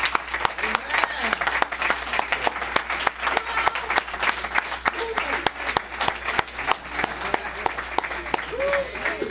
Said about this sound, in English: if y'all would stand up and just give God a round of applause, please.